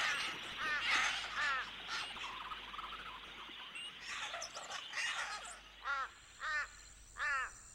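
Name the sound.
crow cawing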